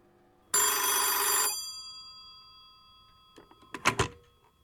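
An old-fashioned telephone bell rings loudly in one burst of about a second, its tones lingering as they fade, followed by a short clatter like a handset being lifted.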